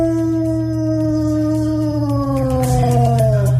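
A dog howls in its sleep, a long, sustained howl, its tone sliding slowly downward before trailing off near the end. It is fairly loud, with no talking.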